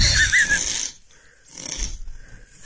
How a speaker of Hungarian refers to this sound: Megmutatom még egyszer, szerintem ez a kamu. Kamu hang. Nem, ez egy mesefilm, hát így nem horkol senki.